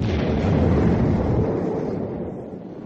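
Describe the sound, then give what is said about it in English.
A voice imitates an explosion in the throat into a microphone, with no props or recordings, making a loud, rumbling, breathy roar that swells briefly and then slowly fades away, alone with no talking. “And let's see, explosions.”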